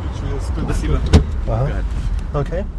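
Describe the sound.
Inside an old Soviet-era Russian Lada car on a ride around Moscow: a steady engine rumble and road noise, a single sharp clunk near the middle like a door or window, with muffled voices talking over it.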